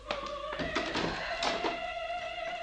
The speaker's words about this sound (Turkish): Kapıyı açayım.